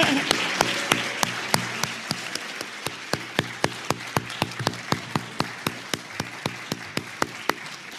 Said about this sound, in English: How about you guys join us all and let's do a round of applause.